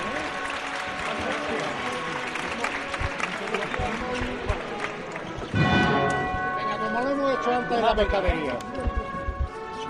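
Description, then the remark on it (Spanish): A large outdoor crowd in the Plaza de las Trasiegas claps steadily as the costaleros begin carrying a procession float, with voices heard over it and bells ringing along; the applause swells and grows denser partway through. “Y ya empieza a andar los hermanos costaleros y la plaza rompe este silencio con estos aplausos.”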